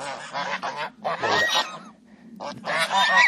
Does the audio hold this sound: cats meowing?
no